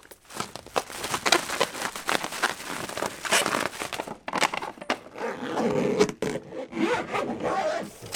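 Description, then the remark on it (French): Busy rustling and rubbing of fabric and objects being handled as Ina packs her suitcase, with quick zipping strokes and crinkling, continuous for several seconds with no talking. “Avant de partir, Ina fait sa valise.”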